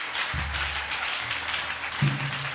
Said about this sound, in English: Oh, yeah, you can clap your hands. Please.